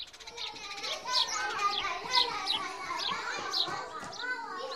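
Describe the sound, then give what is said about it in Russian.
Sparrows chirp steadily outside a window, a busy run of short, bright, repeated chirps overlapping one another, mixed with a continuous murmur of voices in the background. “Малина только пожала плечами, а воробьи за окном довольно чирикали.”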